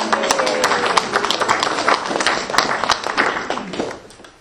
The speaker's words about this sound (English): I'd like to say happy birthday, and I think a small round of applause to my good friend